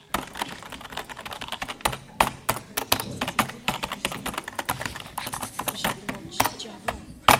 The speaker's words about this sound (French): Bruit de clavier.